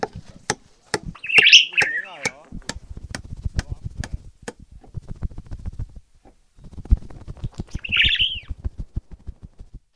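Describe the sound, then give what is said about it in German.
A bird by a house's window panes chirps in two short, bright bursts a few seconds apart, amid a steady series of sharp ticking clicks and a low, murmuring rumble underneath. “Und scheuch mal den Vogel da weg, der kackt uns die Fensterscheiben voll.”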